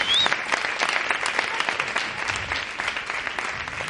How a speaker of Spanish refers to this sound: Es un trozo de Ez al que estáis aplaudiendo, aplaudir la mierda.